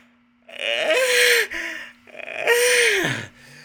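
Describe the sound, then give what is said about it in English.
Two long, drawn-out yawns in a row, each a breathy open-mouthed sigh that slides downward in pitch, with a short pause between them and no talking. “The only difference is you're yawning today.”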